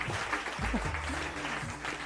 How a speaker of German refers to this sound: Jetzt ist der Applaus ja doch ein bisschen lauter.